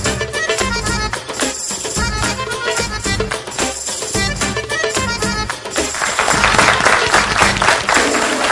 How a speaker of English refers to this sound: Welcome back. As the clap should tell you, we're interviewing superstar Salman Khan, and joining him tonight with some questions also is his director, Kabir Khan.